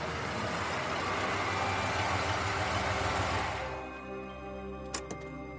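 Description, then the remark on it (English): A truck rolls up with a loud, rushing engine roar that quickly settles into a low, steady idle hum, with a couple of sharp clicks near the end, as a man pulls up in the truck while a car is being unloaded. “As we were unloading the car, a man pulled up in a truck.”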